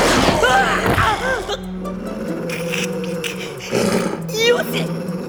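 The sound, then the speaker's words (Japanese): A dog given a large dose of stimulants, now completely rabid, snarls and roars ferociously, with loud wavering bursts at the start, a lower rumbling growl in between, and another harsh outburst near the end. “大量の興奮剤を投与した。もはや完全な狂犬だ。”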